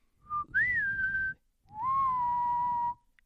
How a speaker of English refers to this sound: That means adios in whistle tone.